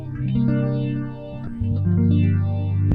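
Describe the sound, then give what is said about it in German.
An electric guitar played through a phaser, sustained chords and bass notes with a sweeping, swirling whoosh moving up and down the overtones. Loud and steady, with no talking. “Phaser-Alarm. Aber warte mal, ich nehme mal den anderen Pickup.”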